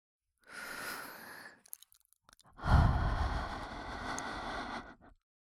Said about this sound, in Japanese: 生暖かい吐息をお耳に当てられて、ピクって跳ねちゃいましたね。